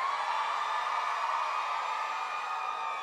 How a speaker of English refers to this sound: Now I'm looking out in the audience and I see a handful of girls. I want to hear the girls in here scream!